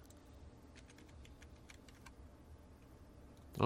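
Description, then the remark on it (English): Soft, rapid keystrokes on a computer keyboard, a quiet run of clicks over a low background hum, followed by a pause before a louder sound cuts in at the very end. “See, oh, why am I not typing here?”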